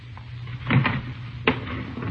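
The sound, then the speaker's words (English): A cash drawer is pulled open with a rattling slide and then a sharp clunk a moment later, over a steady low hum. “Pistol. Keep in the cash drawer, see?”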